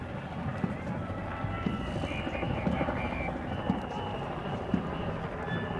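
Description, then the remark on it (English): A helicopter rumbles steadily overhead, its dense low drone broken by rhythmic thumping pulses, loud and continuous throughout with no pause. “Bonjour, Mr. Helicopter.”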